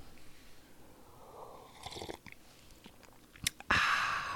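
A sip of coffee: soft lip smacks and small wet clicks build into a short, loud slurping rush at the end, with no talking.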